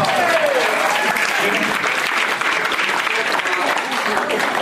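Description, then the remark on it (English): A crowd applauds steadily and loudly for several seconds, the dense clapping forming a constant wash of sound, with a few faint voices mixed underneath. “At least clap or something, right?”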